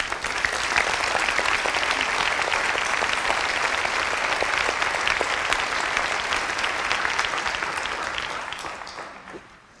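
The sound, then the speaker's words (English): A large audience claps steadily for several seconds for team members from the Department of Education and the intermediate units, a dense, even wash of applause that holds its level and then tapers off near the end. No one speaks over it. “And let's applaud all of them.”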